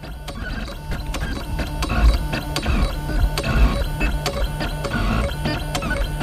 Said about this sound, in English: Inside a Tallahassee shop called Making Awesome, there's a 3D printer at work making a gear, a common shape used to show off a 3D printer's skills.